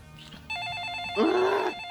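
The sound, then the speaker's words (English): A telephone rings with a steady, warbling electronic trill that starts after a short quiet moment and carries on to the end, with a louder, brief sound overlapping it partway through. “Nora goes back to her packing as Luther answers the phone.”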